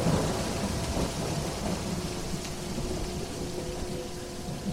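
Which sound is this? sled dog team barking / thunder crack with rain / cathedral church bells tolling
thunder crack with rain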